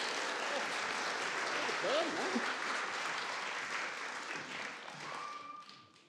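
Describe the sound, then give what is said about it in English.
A crowd breaks into a big round of applause, dense, steady clapping lasting several seconds with a few voices cheering within it, before it thins and fades out at the end. “Right, you guys, let's have a big round of applause for these guys.”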